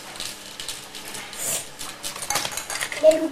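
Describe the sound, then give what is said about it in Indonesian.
Plates and cutlery, including a pink plate, are handled, with a steady run of light clinks, taps and scrapes over a few seconds, and a soft voice faintly in the background. “Ini piringnya dong, itu piring kok yang merah jambu.”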